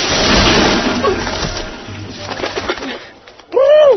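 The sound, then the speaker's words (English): A rough, rustling wash of noise fills the first few seconds, then after a brief lull a loud pigeon coo rises and falls at the very end. “Sorry to intrude, Pigeon.”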